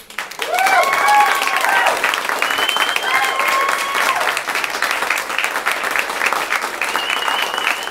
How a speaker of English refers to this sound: Applause, applause.